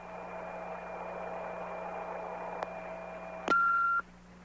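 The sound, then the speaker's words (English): Steady line hiss and hum give way to a sharp click and one short, steady mid-high beep of about half a second, louder than the background, then quieter hiss: the beep tone signal of a recording line for a Lutheran Church Missouri Synod convention news service. “You can help us evaluate its usefulness to you by giving us the name of your city after you hear the beep tone signal.”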